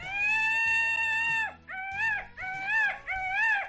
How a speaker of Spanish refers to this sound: Más que nada porque el canto del pavo real es muy potente y bastante desagradable al oído.